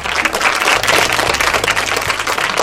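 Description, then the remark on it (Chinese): A crowd applauds steadily, with dense, sustained clapping that stays loud and even for a few seconds and has no voices over it. “小布丁的话得到了一阵掌声”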